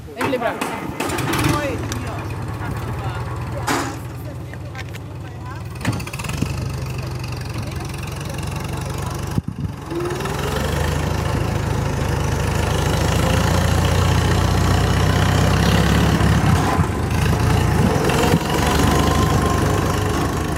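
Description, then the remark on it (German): A tractor engine chugs steadily, a continuous low rumble with occasional knocks that swells louder and fuller about halfway through as it drives on, carrying tourists on a ride through a palace park, driven by palace staff. “Nach diesem Schlenker wird es aber nun doch Zeit, den Park zu erkunden. Per Traktor.”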